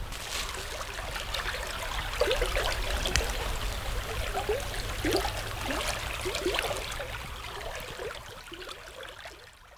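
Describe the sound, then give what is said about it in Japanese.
Clear water runs steadily along the Sakuda no Unade irrigation channel, a continuous gurgling and trickling with small splashes and bubbling, moderately loud, with no voices. “この清らかな水の音をちょっと聞いてください。”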